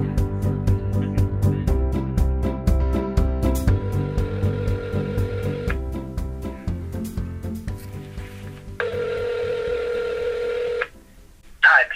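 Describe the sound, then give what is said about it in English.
A cell phone on speakerphone in a library being dialed for a fact-checking call for The New Yorker, a run of short electronic keypad tones followed by steady, sustained ringing tones that start and stop, with no one speaking. “I mean, we could do it on speakerphone in the library, on my cell phone.”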